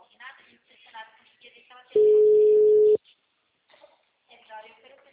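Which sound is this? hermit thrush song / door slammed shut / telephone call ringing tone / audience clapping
telephone call ringing tone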